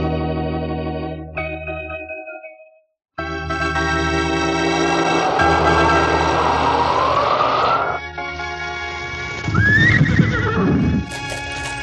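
Horses being saddled, which had earlier pulled a black carriage, whinny loudly and repeatedly, their shrill neighs rising and falling, with hooves clip-clopping underneath and a brief pause partway through.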